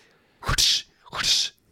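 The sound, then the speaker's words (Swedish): Two sharp, hissing whip-like swishes about half a second apart, fairly loud, each with a breathy, voiced quality that suggests someone imitating a whip crack with their mouth. “Piskan viner.”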